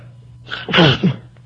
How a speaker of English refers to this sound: Nor can I stop sneezing. I think they poisoned the air in New York, by the way.